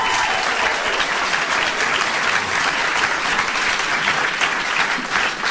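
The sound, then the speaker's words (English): Sustained, loud applause from an audience at Open House welcoming two guests, a dense wash of clapping that holds steady for several seconds with no voices breaking through. “What a crowd, amazing.”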